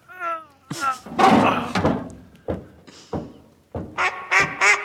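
A female duck quacks several times, a nasal call at the start and a quick run of quacks near the end, with heavy thumps and clattering knocks in between.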